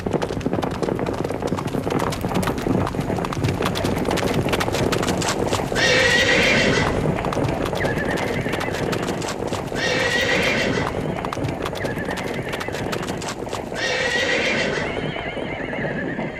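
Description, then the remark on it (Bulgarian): Galloping horses on the Great Plains of North America in the 19th century pound steadily and loudly throughout, a dense rapid drumming of hooves, with several sharp neighs and whinnies rising over the rumble at intervals. No one speaks. “Чувате ли вече галопиращите коне?”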